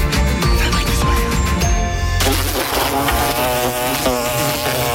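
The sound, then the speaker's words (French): A wasp or hornet buzzes loudly, a continuous droning hum whose pitch wavers and shifts as it flies, lasting the whole stretch with no one talking. “L'été arrive et les nuisibles aussi. Guêpes, frelons, rongeurs, punaises de lit, cafards.”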